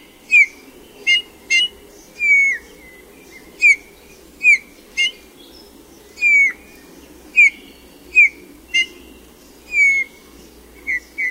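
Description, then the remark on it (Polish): A Eurasian bullfinch sings a slow, uneven series of clear whistled notes, several sliding downward, broken up by short muffled notes including its contact call, with a faint steady background hum beneath. “Charakterystyczny jest opadający gwizd, przedzielony kilkoma zduszonymi nutami, w tym głosem kontaktowym oraz elementami luźnych improwizacji, jak choćby niezbyt udanego naśladownictwa innych gatunków.”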